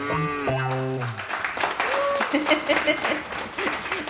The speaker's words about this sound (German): Spontaner Applaus!